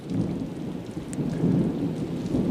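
A steady thunderstorm: dense rainfall hisses throughout while a deep, continuous thunder rumble rolls underneath, fairly loud and close, with no voices present.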